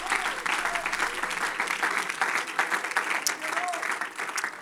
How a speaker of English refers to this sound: Can we give God praise and clap our hands one more time?